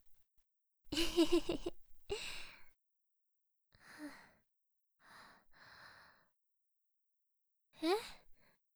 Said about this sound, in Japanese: あくびかな。眠いのかも。